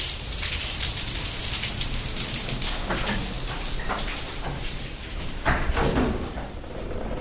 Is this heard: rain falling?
yes